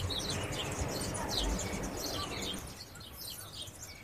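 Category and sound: bird, birds chirping outdoors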